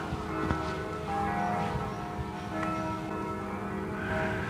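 Church bells of Mülheim peal steadily, their overlapping strikes blending into a continuous ringing wash with a few sharper clangs standing out. No one speaks.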